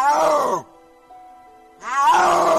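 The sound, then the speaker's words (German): A snow leopard's mating roar, made only when seeking a partner: two loud, wavering, moan-like calls rich in overtones, separated by a pause of about a second in which only faint, steady tones remain. “Und so klingt der Brunftschrei eines Schneeleoparden.”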